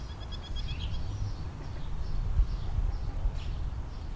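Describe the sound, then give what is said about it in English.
Birds calling: a quick run of short high chirps at the start, then a few scattered calls over a steady low rumble of background noise. “Learning how to understand these sounds can tell you a great deal about the state of affairs in the bird community, giving you a whole new level of understanding of what's happening moment by moment in their lives.”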